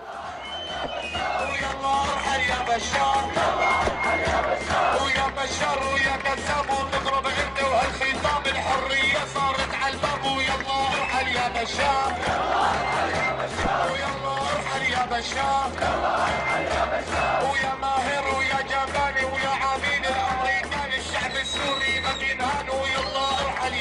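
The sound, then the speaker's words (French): A large protest crowd in Hama, Syria, on 27 June chants slogans against Bashar in unison, loud and dense throughout, with rhythmic surges of massed voices and shouting repeating across the whole stretch. “Voilà ce que reprenait la foule à Hama.”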